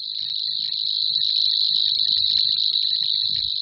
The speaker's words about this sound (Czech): Stojí za zmínku, že všechny cvrčilky rády zpívají v noci, kdy se její hlas v nočním vlhkém vzduchu nese daleko do dálky.